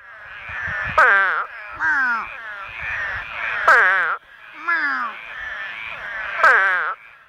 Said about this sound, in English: For those not familiar, that is an eastern spadefoot toad. Spadefoot toads don't necessarily look like much, at least not to me. They're small, round, pale brownish-greenish. Basically, they're toads.